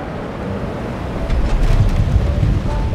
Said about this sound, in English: And once you get closer to the ground, that is when the pilots reconfigure the shape of the wing. And as they extend the flaps, you may hear that hydraulic pump. And as that happens, you can sometimes even hear a change in the airflow over the wing.